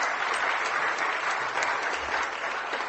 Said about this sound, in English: And we'll give them a big clap. Well done.